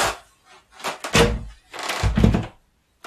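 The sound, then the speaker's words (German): A door in an old building is handled and opened: a couple of solid, fairly loud clunks and rattles with short pauses between them, and no voices. “Warte mal, hier ist eine Tür.”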